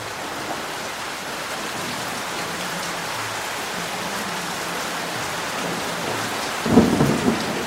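Steady rain falls in a dense, hissing wash throughout, with a low rumble of thunder rolling underneath and a sharper burst near the end. No voices are present.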